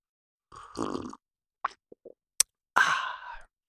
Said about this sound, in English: And I'm going to pause here for a dramatic sipping of coffee.